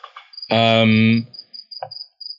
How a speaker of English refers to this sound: Stupid cricket. Hold on.